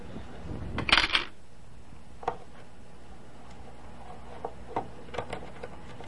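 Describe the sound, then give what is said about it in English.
Coins clatter into a coin machine in a quick metallic rush, followed by a few scattered, soft clicks and ticks spaced out over the next several seconds, with no talking. “Okay, there's all that money. You want to put it in here? Gotta push the button.”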